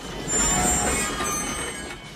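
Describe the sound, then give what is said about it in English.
A train of boxcars slows in light snowfall, its wheels screeching with a thin, high squeal over a steady low rumble; a continuous sound with no voices. “The wheels of the train slow.”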